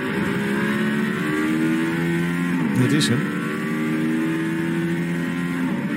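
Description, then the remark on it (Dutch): A Mercedes-AMG One hypercar engine drones steadily and loudly, its pitch dipping and climbing again midway as the car briefly gets wheelspin in fourth or fifth gear, with a brief spoken phrase over the start. “Het klinkt een beetje als een Formule 1 auto op de PlayStation.”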